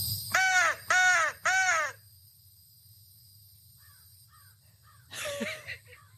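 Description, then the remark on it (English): During a morning feeding, three loud crow caws in quick succession answer a person's crow whistle. Fainter caws answer after a pause, and another harsh call comes near the end. No one speaks. “Talking, having a conversation with my crows.”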